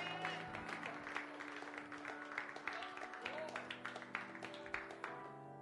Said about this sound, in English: Somebody clap your hands. Come on, come on. Clap your hands like you believe it.